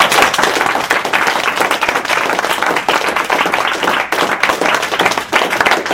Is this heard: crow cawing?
no